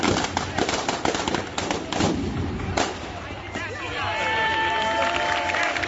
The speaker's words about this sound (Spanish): Esa era la tarta explotando. Habían puesto una tarta y demás con una serie de petardos y explotando.